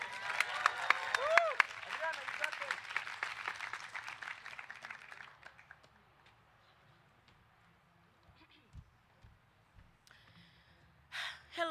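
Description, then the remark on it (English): An audience at a poetry event applauds as poets are welcomed to the stage, with loud, dense clapping and a brief cheer early on, then the applause thins and fades away over several seconds, leaving near quiet with a few short sounds at the end. “One more round of applause, come on.”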